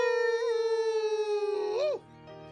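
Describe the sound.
A long, steady howl ("Aroo!"), apparently voiced by a person imitating a wolf as a greeting on a show, holds one pitch for about two seconds, then swoops up and breaks off. It is loud, with no talking.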